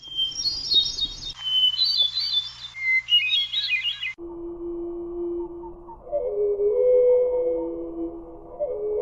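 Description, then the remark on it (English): A North American hermit thrush sings a few clear, flute-like rising phrases, then the song repeats slowed down, deep and drawn out, with no one talking. “This is the North American hermit thrush.”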